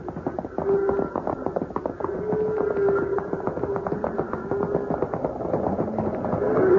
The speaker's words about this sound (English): Too late, Hoppy. They're stampeded. And they're moving this way. Fast. Hoppy, we can't stop them. And we can't get out of this gorge.